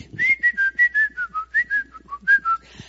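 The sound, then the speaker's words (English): A person imitates loud whistling: a lively, rapid tune, a quick run of bright, clear notes rising and falling in a steady rhythm, loud and alone without any talking. “All of a sudden, we get off and we go to the restroom, and I hear this loud whistling.”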